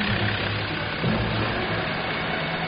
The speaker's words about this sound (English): Then more help arrives. A DC-3 taxis in.